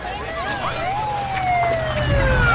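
A police siren wails in sweeping, falling tones over a steady low engine rumble, growing slightly louder as a black sedan with red and blue lights flashing rolls up.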